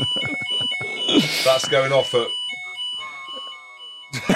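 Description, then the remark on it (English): A hotel fire alarm going off at night sounds a continuous, steady high-pitched electronic tone throughout, while people talk and exclaim loudly over it. “Shall I just show the fire alarm?”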